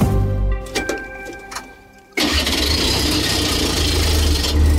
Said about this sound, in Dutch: Voilà, die diesel is in gang getrapt. Een geluid dat langzaam aan het uitsterven is.